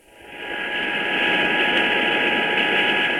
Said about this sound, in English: The Sikorsky Sky Crane looks like a giant praying mantis. The cargo helicopter can hold up to 25,000 pounds of equipment, but on this run, only a few hundred feet of boom, an outboard motor, and some rakes are being taken to help secure the San Juan